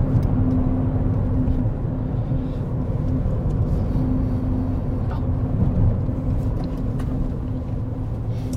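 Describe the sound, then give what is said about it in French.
A car engine drones steadily with a low, even rumble and a faint hum, as if heard from inside the moving vehicle as it arrives to park near a church, constant throughout with no voices. “Alors là, tu peux garer ta voiture là, même derrière l'église.”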